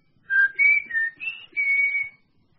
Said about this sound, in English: When the coast's clear for a further conference, give me a whistle. Like this.